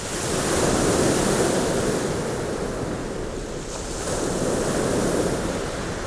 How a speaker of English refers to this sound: When I went to the beach, I saw waves.